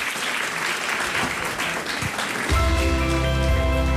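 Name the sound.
applause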